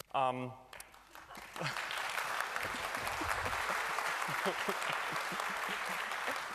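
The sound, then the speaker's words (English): A brief spoken phrase, then an audience at a talk on new memory corruption attacks breaks into sustained, dense applause that swells and holds steady, loud and continuous to the end, with a few voices mixed in. “Wait with the applause for until after the talk.”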